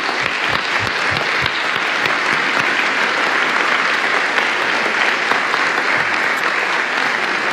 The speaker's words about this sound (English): And I would appreciate applause for these individuals right now.